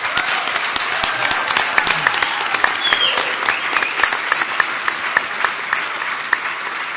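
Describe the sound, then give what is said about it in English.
A crowd claps steadily and loudly for several seconds, applauding police, fire and emergency service personnel and members of the United States military present, a dense patter of many hands with no voices rising above it. “If you've served in that capacity and you're here today, thank you, and we owe you a round of applause.”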